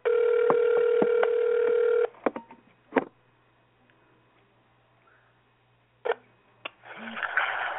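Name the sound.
outgoing telephone call ringing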